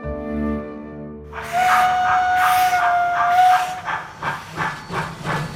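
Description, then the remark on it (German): A low sustained tone gives way to a loud burst of hissing steam and a long, shrill steam locomotive whistle, then the engine chuffs away in steady rhythmic puffs. “Mit der Dampflok.”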